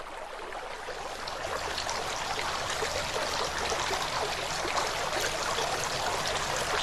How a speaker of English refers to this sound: washing their hands.